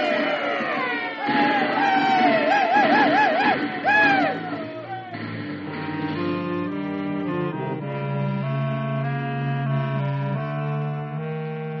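A crowd of men lets out high, wavering whooping yells for about five seconds, fairly loud and close, then the shouting gives way to sustained music chords.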